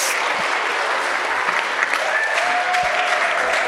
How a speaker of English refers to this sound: Nobody knows the true identity of the tent inspector. Please, tent inspector, please give him a round of applause.